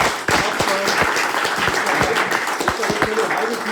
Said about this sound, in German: Jetzt ist erstmal Applaus für unseren Gang.